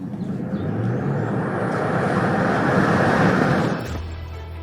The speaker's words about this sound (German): Performance-Modelle von Tesla sind natürlich bekannt für ihren Start aus dem Stand. Wollen wir mal schauen, ob es das Model Y auch kann. Auf die Plätze, fertig, los!